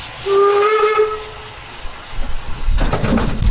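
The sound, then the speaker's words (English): A steam-powered train at the Loon Mountain ski area, running between the Octagon Lodge and the Central Governor's Pavilion on a windy, snowy day, sounds its whistle in one long, steady note, then trails off as a loud burst of hissing steam takes over near the end, with no voices. “To get between the Octagon Lodge and the Central Governor's Pavilion, you can walk or take the steam-powered train.”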